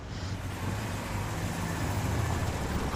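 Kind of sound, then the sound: vehicle, van driving away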